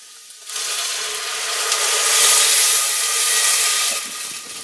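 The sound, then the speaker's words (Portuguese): Pre-measured water is poured into a hot pan of softened pepper and onion, making a sudden, loud sizzling hiss that swells for a few seconds and then cuts off, with no talking. “E então vamos passar à fase seguinte, deitar a água e o sal. Então deitar a água.”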